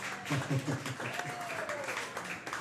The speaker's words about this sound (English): Thank you for coming out. Give yourselves a round of applause just to start it off. Get yourself loose, you know what I mean?